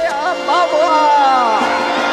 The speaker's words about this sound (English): Oh, look at them cheering that little pipsqueak. Let them cheer.